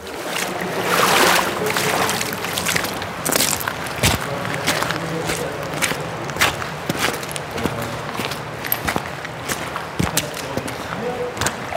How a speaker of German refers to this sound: Und bei uns war es so, dass wir tatsächlich auch noch einmal durchs Wasser laufen mussten. Wir haben uns Gummistiefel geholt und das hier ist das Geräusch, das das EXM aufzeichnet, wenn man mit Gummistiefeln durch einen Kanal läuft.